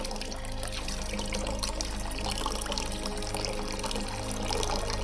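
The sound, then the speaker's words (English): Water pours steadily from a jug during a prayer in a continuous splashing stream, fairly loud, with a low steady hum underneath and no talking. “When I begin to pour the water from the jug, we ask for your living water, your living river, to flow to and through these people.”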